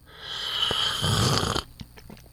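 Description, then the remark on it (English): A long, airy slurp of hot coffee being sipped in a recording studio in Hazelwood, a hissy breathy draw lasting over a second, then a few soft clicks and a faint swallow. No talking. “I got a hot cup of coffee, you know what I mean? We have a little sip here.”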